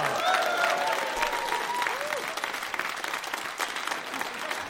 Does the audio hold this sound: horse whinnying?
no